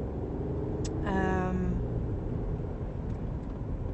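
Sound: car interior noise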